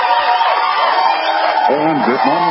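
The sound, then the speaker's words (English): A crowd cheers and whoops steadily for a couple of seconds, a dense, loud wash of many voices with a few individual shouts rising out near the end. “Yeah, let me shut the crowd up here.”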